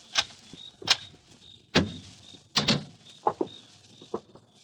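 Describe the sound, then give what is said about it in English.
A door is unlocked and opened: a quick series of sharp metallic clicks and clunks, irregularly spaced over a few seconds, with a faint high whine in the background and no talking. “Open the door, Ruth. Hurry.”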